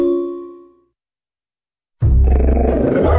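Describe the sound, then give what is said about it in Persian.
A ringing chime fades into a moment of silence, then a two-year-old pit bull dog growls loudly and continuously, a deep, rough rumble that lasts until the end. “ببخشید جناب، نژاد سگتون چیه؟ پیت بول.”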